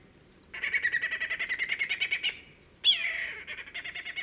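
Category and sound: bird, whistling kite call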